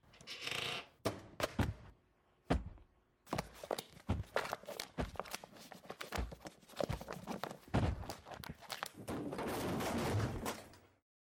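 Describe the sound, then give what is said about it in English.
A shelf crashes over, scattering objects in a long, irregular run of sharp clatters, bangs and thuds, loud, with rushing noisy bursts at the start and end. “Did you just knock that shelf over?”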